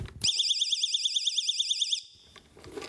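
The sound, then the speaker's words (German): A small personal pocket alarm, a device people use to draw attention and signal that they are in distress and need help, shrieks loudly with a rapid warbling, siren-like tone for about two seconds, as loud as a smoke detector, then cuts off abruptly, leaving faint background noise. “Also das kleine Gerät und dieses kleine Gerät ist so laut wie bei Rauchmelder, dass die Menschen sich aufmerksam machen können und sichtbar machen, dass sie in Not sind, dass sie Hilfe brauchen.”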